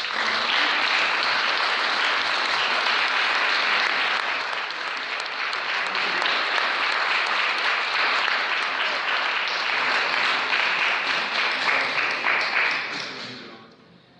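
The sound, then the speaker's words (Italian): A crowd applauds steadily with dense, sustained clapping that holds at full strength for about twelve seconds, then fades quickly to quiet at the end. “Io vorrei ringraziare tutti, io sono veramente tutti straordinari, e devo fare un applauso per tutti quanti.”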